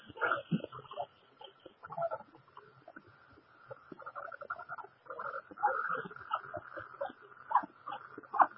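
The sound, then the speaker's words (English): A dog whimpers and whines in a string of uneven, high-pitched bursts, fairly quiet, with a steady faint hum running underneath throughout. “Dog's not a person.”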